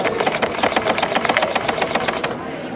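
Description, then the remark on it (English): A braille embosser, recorded with the microphone right by it, prints with a fast, steady mechanical clatter of sharp repeated strikes, moderately loud like an office typewriter, running evenly for a couple of seconds before stopping abruptly. No one speaks. “I mean, compared to obviously other brailers, it's certainly, you know, you can still talk over that. It's not dominating.”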